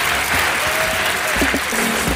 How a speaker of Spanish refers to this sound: Lo que viene a continuación es Emprende Estafadores. ¡Un fuerte aplauso!